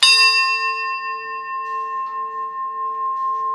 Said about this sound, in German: Um den Unterschied und den Rhythmus für die Besucher zu demonstrieren, haben die Museumsmacher eine Glocke auf ein Uhrwerk gesetzt. Und da lösen wir das jetzt mal aus, um den Glockenschlag zu erzeugen.